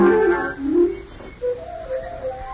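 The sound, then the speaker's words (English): Birds singing in the trees: a few clear, whistled tonal phrases rising and falling, following a fuller warbling passage at the start, moderately loud with no talking. “The birds are making all the birds in the trees,”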